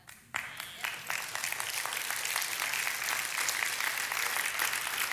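An audience breaks into sudden, loud applause, cheering the giving of money, after a brief quiet moment, many hands clapping in a dense, steady roar that holds at full strength to the end.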